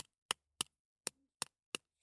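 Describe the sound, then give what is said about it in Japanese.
Eggshell cracking in a series of six sharp, crisp snaps, irregularly spaced over two seconds, each a brief bright crackle with silence between and no talking. “鳥さんが卵の殻を割って出てくるみたいな音がする。”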